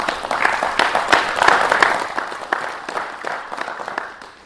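An audience applauds steadily, many hands clapping in a dense, crackling patter that holds fairly loud for several seconds before thinning out and fading at the end.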